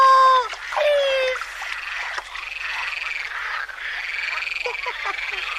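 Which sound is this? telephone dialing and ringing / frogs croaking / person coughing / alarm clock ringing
frogs croaking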